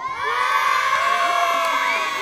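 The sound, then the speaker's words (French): A crowd of schoolchildren from the school of Aguesac shouts and cheers together in a school shouting contest, a loud, sustained burst, many high voices overlapping in a dense, continuous roar for a couple of seconds. “Si je dis l'école de Aguesac. Faut crier. Alors on crie.”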